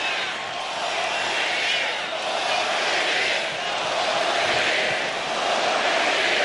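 A large crowd cheers and roars continuously, a dense, loud wash of voices that swells and dips slightly but never stops, with no single speaker standing out.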